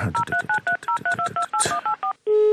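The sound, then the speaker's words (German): A telephone number is dialed: about a dozen short, two-pitched keypad beeps in a quick, even rhythm, followed by a steady sustained ringing tone starting at the end. No voices. “Stefan anrufen, Stefan.”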